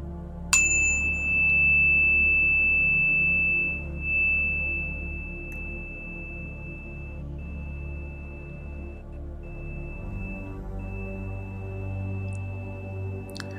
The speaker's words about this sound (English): In a few moments, I will ring the bell to begin today's session.